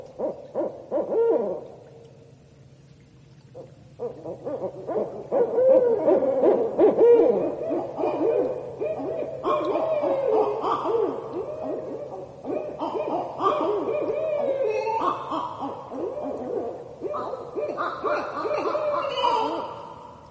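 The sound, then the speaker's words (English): A pair of barred owls call back and forth in a loud, raucous territorial duet of hoots, cackles and wavering caterwauls, overlapping and building in intensity over about twenty seconds, with no talking. “They're often doing that because they're hearing another pair or individual barred owl on an established territory, and that's when the pair starts really revving up and making those territorial calls.”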